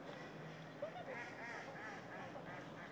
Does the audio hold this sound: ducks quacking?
yes